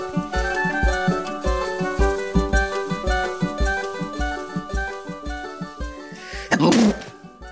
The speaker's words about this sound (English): Sorry about that. When you sneeze so hard, you smash your push to talk button.